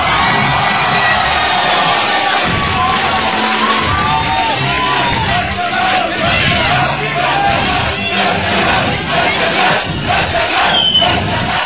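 A large audience applauds and cheers continuously to welcome the second contestant, dense clapping mixed with shouts and whoops, loud and sustained throughout with no speech over it.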